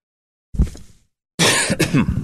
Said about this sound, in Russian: Извините, я сегодня немножко подустал, поэтому буду покашливать.